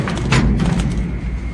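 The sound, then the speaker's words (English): A heavy metal cage door clangs shut with a few sharp impacts and a rattling scrape, over a steady low mechanical rumble, as tunnel workers in a metal cage prepare to descend into a shaft. “Door down.”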